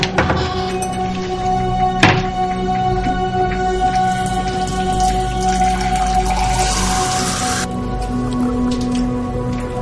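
Water pours steadily into a glass for several seconds, a continuous splashing trickle that stops abruptly near the end, with a brief knock early on and a faint steady hum underneath.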